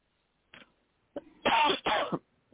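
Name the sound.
coughing and throat clearing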